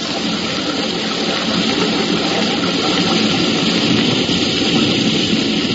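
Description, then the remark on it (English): A waterfall's torrent of falling water roars steadily and loudly throughout, a dense, unbroken rushing wash of noise with no pauses or voices. “stepped onto the slippery shelf of rock next to the falls, hunched his shoulders, and disappeared into the torrent of falling water.”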